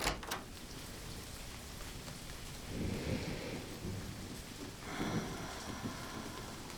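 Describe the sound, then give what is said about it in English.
Steady rain hisses throughout while low thunder rumbles roll in twice, a longer rumble near the middle and another toward the end, with no voices present. “We can face the storm together.”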